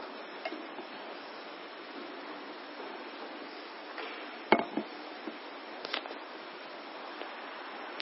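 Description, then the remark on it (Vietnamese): A wooden door gives one sharp knock or rattle, followed by a few lighter, scattered taps, all over a steady background hiss. Brief, with no voices. “Cái cửa bị gì?”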